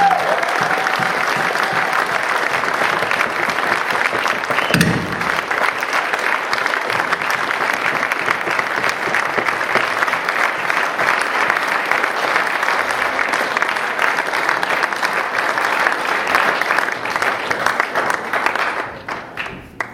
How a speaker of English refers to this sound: If your journey has been one where you made this commitment a while ago, then I ask you to applaud these people, literally. Applaud them who are making this commitment.